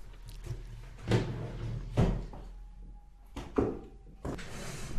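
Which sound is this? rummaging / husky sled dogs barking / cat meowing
rummaging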